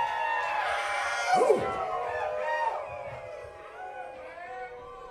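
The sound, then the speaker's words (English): Several voices imitate wolves and coyotes, letting out long, rising and falling howls that overlap and peak loudly about midway, then trail off into softer, wavering cries. “Wolves and coyotes and owls.”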